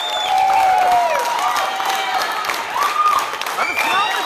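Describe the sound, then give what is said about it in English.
A large crowd of supporters at an election-results party in a hotel in Reykjavik, Iceland, with green balloons, claps loudly and steadily in unison, the applause dense and continuous, with excited voices and scattered cheers rising over it throughout. “Green balloons, everyone clapping in unison.”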